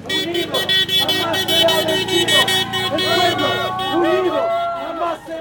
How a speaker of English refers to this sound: Meanwhile, a captive audience of rush hour commuters watch from inside idling cars, and some drivers offer support.